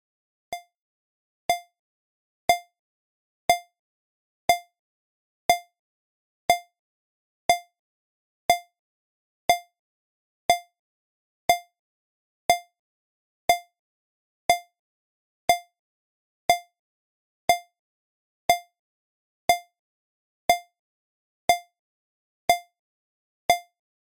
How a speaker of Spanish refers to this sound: Vas a escuchar varios pitidos. El código que necesitas es la suma total de los pitidos. Pero cuidado, los de la oreja derecha valen el doble.